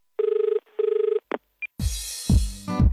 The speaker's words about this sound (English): Yeah, well, let's get on the old paleo phone and give him a ring.